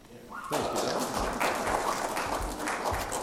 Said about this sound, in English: Embarrassing me with applause.